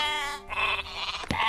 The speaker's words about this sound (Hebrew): בפיפ, הכבשים!